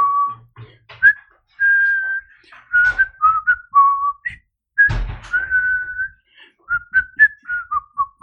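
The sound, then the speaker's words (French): Someone whistles a cheerful, wandering hold-music style tune, clear, with no talking; a soft thump breaks in midway before the melody carries on. “Incroyable cette musique d'attente.”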